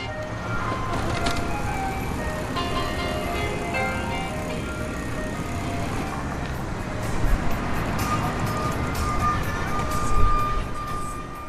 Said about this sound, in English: On 18th Street in Pilsen, on the southwest side of Chicago, the ice cream truck searches out new customers.